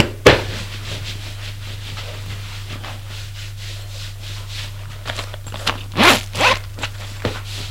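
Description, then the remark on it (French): A sharp click, then a few quick zips and the rustle of clothing as a man undresses, with a steady low hum underneath throughout. “Puis, il se déshabille.”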